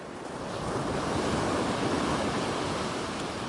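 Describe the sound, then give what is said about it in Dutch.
Sea waves wash onto a shore in a continuous roaring surge that swells in the first second and holds steady, full, with a windy hiss and no voices. “Hallo! Zee! Hoor je mij?”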